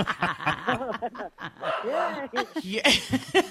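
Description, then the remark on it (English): A three-year-old black cocker spaniel barks in a quick, uneven string of short, sharp yaps, fairly loud, with a few longer whining notes mixed in. “He's a three-year-old black cocker spaniel. What is he barking at?”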